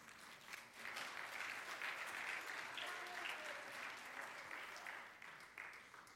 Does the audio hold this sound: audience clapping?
yes